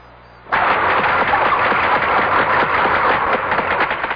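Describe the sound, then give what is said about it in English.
A whale clicks rapidly and densely deep down in the ocean, the clicks blurring into a loud, rough buzzing that starts abruptly after a brief quiet moment and continues steadily without pause. “That's right, a great big blubbery old whale just buzzing and clicking and grunting away deep down in the ocean.”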